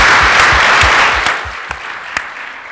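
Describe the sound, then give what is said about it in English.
After worship at a joint family service at New Hope Christian Church, the audience claps together for the worship team and God in a dense, sustained burst of applause that gradually thins out, ending in a few scattered, isolated claps. “Let us give them a clap and give our great God a clap.”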